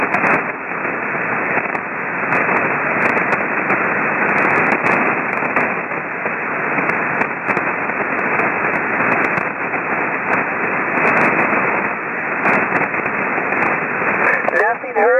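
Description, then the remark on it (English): Steady, crackling amateur radio static fills the whole stretch, dense hiss and sputtering bursts, with a faint, barely discernible low-power (QRP) transmission buried underneath and a brief warbling tone near the end. “let me see if I can pull you out of the static.”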